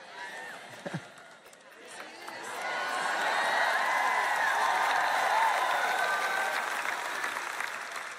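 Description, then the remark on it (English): An audience bursts into sustained applause after a preacher says Jesus is coming back; it swells after a brief pause and holds loud and steady, with scattered cheers and voices mixed into the clapping. “Now, you know, you're clapping when I say Jesus is coming back, but you better make sure that you're living in a way now that's going to cause you to clap when the day comes.”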